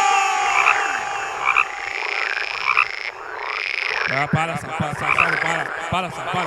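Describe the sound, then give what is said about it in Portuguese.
Frog croaking sound effect, a rapid series of throaty croaks repeating in a busy rhythm, loud, with a chattering layered texture that thickens toward the end. “Para, sapo. Para, chega, sapo.”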